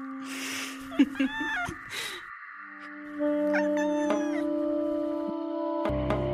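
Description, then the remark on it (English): A baby gray kitten meows several times in short, rising-and-falling cries that sound almost like "mama," clear over a steady humming drone. “I have a baby gray cat who calls me mom in Spanish. She says, mama.”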